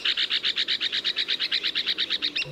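An Arizona woodpecker gives a rapid, evenly spaced series of about twenty high, raspy notes, steady in loudness and heard alone with no one talking.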